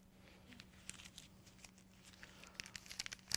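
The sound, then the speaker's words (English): Soft, irregular crinkling and rustling of a paper dollar bill being handled, a string of small crisp crackles that grow a little louder toward the end, with a faint steady hum underneath and no voices. “But I got a dollar bill.”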